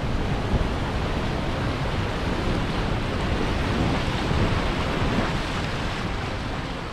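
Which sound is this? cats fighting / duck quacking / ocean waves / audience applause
ocean waves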